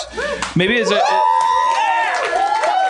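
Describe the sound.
A live audience cheers and whoops, several voices rising and overlapping in a loud, steady burst of crowd noise that lasts the whole few seconds.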